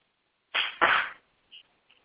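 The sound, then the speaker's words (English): Two hand claps in quick succession, each a loud, broad, slightly smeared burst, followed by a couple of faint, brief ticks and then quiet. No one speaks. The claps answer a radio host's request that listeners clap twice. “If you can hear me in Radioland, clap twice.”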